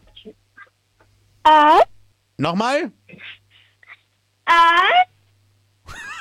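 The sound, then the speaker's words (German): A 10-year-old girl from the state of Steiermark imitates a wolf howling at Radinos Mini-Disco: three short, loud, wavering calls, one sliding downward in pitch, separated by silence, with a brief spoken question in between. “Und zwar hätte ich gerne, dass du mal heulst wie ein Wolf.”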